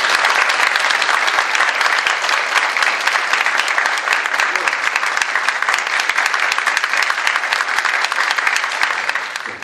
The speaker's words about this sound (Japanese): 皆さん大きな拍手を持ってお迎えください。